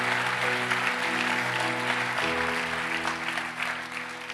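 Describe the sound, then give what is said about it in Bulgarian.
An audience claps steadily for about four seconds, a dense, loud wash of applause with no pauses, over a faint low sustained hum. “О, ако ръкопляскате, ръкопляскайте, като че не ми отнемате телевизионно време.”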